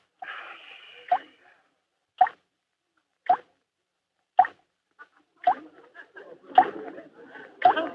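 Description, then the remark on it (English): Water drips steadily from a shower, one sharp plop roughly every second, distinct, with some faint rustling in the background during the last few drops. “The shower is dripping.”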